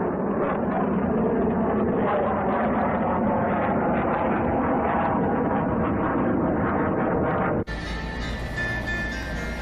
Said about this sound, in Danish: Det brøl, vi kan høre over os her, det er fighter jets, der flyver ind over Gaza nu.